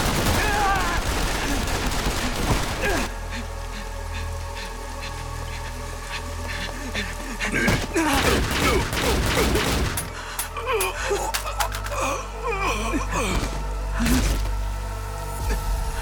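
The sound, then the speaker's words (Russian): Loud bursts of rapid gunfire crack repeatedly over a low, steady rumble, with the densest volleys coming midway through and more scattered shots near the end. “Там выстрелы были!”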